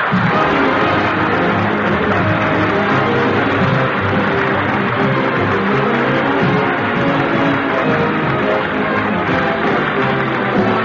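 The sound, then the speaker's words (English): A forming crowd murmurs steadily, many voices blending into a dense, constant babble with no single speaker standing out, fairly loud throughout. “There's a crowd forming.”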